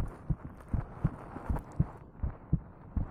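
A mother's heartbeat thumps steady, paired lub-dub beats repeating in a slow even rhythm, low and muffled with a faint hiss behind it and no voices.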